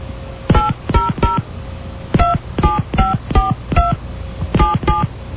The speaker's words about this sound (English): First, I need your area code and phone number. Please enter it using touch tones, followed by the pound key.